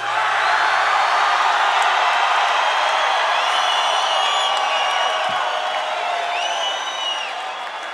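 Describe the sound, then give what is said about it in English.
A large concert crowd roars with sustained cheering, with shrill whoops and whistles cutting through. The noise stays loud and dense throughout, easing slightly near the end. “We're arguing over which crowd was better, last night or tonight.”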